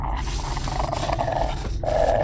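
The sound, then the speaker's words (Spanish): A large Rottweiler, a neighbour's dog, growls and snarls continuously on a staircase, a deep rumbling roar that swells louder toward the end, with no voices present. “Es el perro de mi vecino. Tranquilo.”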